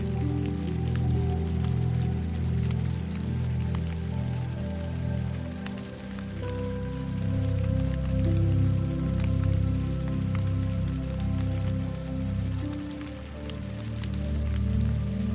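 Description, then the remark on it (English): Steady rain patters on a hard surface, with scattered drops ticking sharply over a soft, continuous hiss. A low, sustained droning tone hums underneath throughout, and no one speaks. “Finally, feel the rain moving through your aura, the energy field surrounding your body.”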